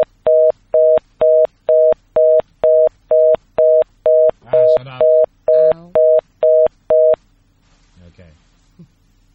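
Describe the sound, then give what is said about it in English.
A steady telephone disconnect tone after a dropped call beeps about fifteen times in an even, rapid rhythm, a loud mid-pitched pulse. A voice briefly talks over it, and after the beeps stop a few faint words follow. “Beep, beep, beep, beep, beep, no!”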